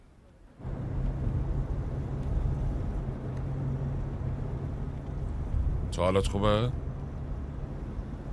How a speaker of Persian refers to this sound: آره، فقط تکون ماشین اذیت هم میکنه.